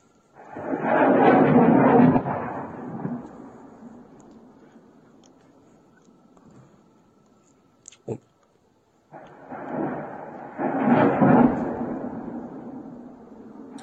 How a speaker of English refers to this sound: Armed forces of Ukraine blew up a warehouse of the Russian Federation Armed Forces in the Luhansk region. So we can see the video of the bombardment here. That is Ukraine bombarding a reserve of the Russians.